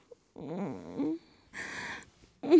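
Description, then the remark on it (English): A person imitates a cat purring with a couple of rough, rattling vocal rumbles and a breathy, hissing stretch between them, ending on a short louder burst. “Listen to how I purr.”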